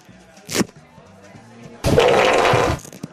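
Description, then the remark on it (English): A small piece of Velcro is pulled apart live on radio as an experiment: a brief scratchy crackle, then a longer, loud rasping rip lasting under a second, over a faint steady low hum. “I got a piece of Velcro.”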